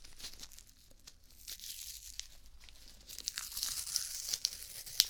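Adhesive tape of the kind stuck on after an injection being peeled and pulled free, a crinkly, crackling tear with small rustles that grows louder and busier in the second half, with no voices.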